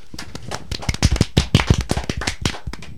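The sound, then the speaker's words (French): A small audience applauds a filmmaker after he presents his film: a dense, irregular burst of sharp hand claps that swells in the middle and continues steadily for a few seconds, with no voices over it. “Et c'est sans courage qu'on va t'applaudir.”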